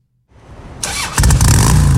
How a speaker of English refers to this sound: ROT rally parade took place last night. Thousands of motorcycles and their riders snaked their way from the Travis County Expo Center to downtown Austin.